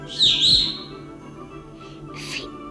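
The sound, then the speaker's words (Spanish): A bright, high-pitched whistle rises and holds for about half a second, followed by a pause and two softer, chirpy whistled notes near the end. No one speaks. “Todo lo que tienes que hacer es chiflar así.”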